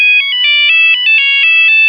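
A cell phone rings loudly, a bright electronic warbling tone pulsing in quick, steady bursts with no voices around it.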